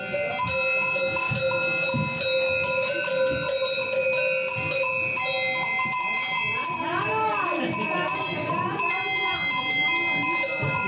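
Barn ambience on the Alp Flix in Switzerland, near the Juliopass above the municipality of Zur at 2000 metres above sea level, filled with ringing animal bells, their bright sustained tones overlapping steadily, while sheep bleat in wavering cries now and then among rustling and shuffling movement.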